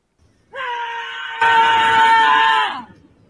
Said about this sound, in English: She just, that's her screaming, and all these people walk by, and she goes, if they looked at me screaming, then they're not a real New Yorker.